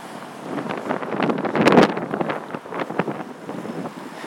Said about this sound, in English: And it's gusting with spit.